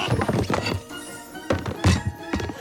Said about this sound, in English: On a bookcase, the fairy topples a row of hardcovers and an Indian-shaped bookend.